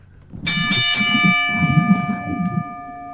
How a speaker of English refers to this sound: please ring the bell.